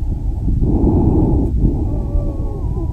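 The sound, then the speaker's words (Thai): Loud, rushing breaths heard through a doctor's stethoscope over the lungs, with a faint, thin whistling wheeze threading through the later exhalation. No voices. “ได้ยินไหมคือมันจะมีเสียงหายใจดังกว่าแต่มันจะมีเสียงวีดเล็กๆอ่ะแทรกอยู่ตอนหายใจออกอันหลังเนี่ยจะชัด”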